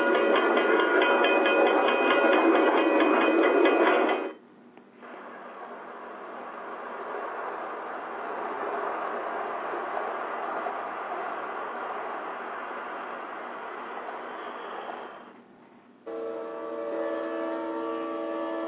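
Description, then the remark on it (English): A loud train horn blares, then gives way to the steady rumbling clatter of a train rolling past before the horn sounds again at the end. No one speaks. “How many times have you witnessed people trying to outrun a train?”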